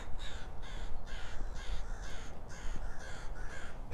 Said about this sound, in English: And even out here, we got crows. The crow contingent makes itself known.